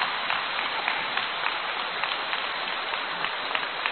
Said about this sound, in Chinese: 鼓掌。